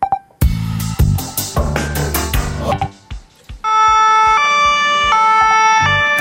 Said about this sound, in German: Fast täglich hören wir die Sirenen, sehen die Ambulanz durch die Strassen rasen und sind froh, dass wir nicht selber auf die Sanität angewiesen sind.